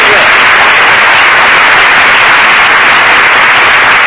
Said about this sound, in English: you could have come in a little sooner with the applause on that other joke. We'd have saved the wear and tear on the audience.